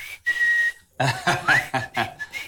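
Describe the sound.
A person whistles a sustained steady note, then a quick run of short, higher whistled notes with a rising slide, fairly loud with no talking.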